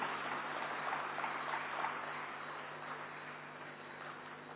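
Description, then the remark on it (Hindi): A crowd claps in loud, welcoming applause for the revered Somprabha Ben, a dense, steady patter of many hands with no voices, holding for several seconds before easing slightly toward the end. “सबसे पहले हम उनका करतल ध्वनि से जोरदार तालियों से स्वागत करते हैं।”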